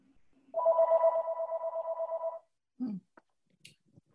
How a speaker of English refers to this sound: Ah, the phone. We're saved by the bell.